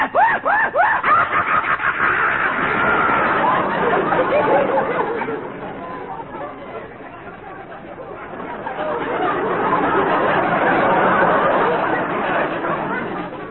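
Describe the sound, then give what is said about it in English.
A voice imitates animal calls: a rising, wavering horse-like whinny, then loud, rapid monkey-style chattering and shrill hyena-like screeching, continuous for about fourteen seconds. “The frightened whinny of our horses. The wild chattering of the monkeys. The maniacal screech of the hyena.”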